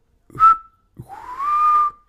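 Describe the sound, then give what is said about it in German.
Two clear whistled phrases from a person: a short bright note, then a longer sliding, warbling tone, mimicking birdsong. Fairly loud, with no talking. “Ja, und ich habe gepfiffen.”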